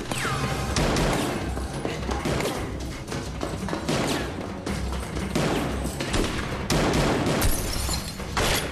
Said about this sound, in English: She runs out of ammunition. She puts a new clip in and shoots, then runs off under heavy fire.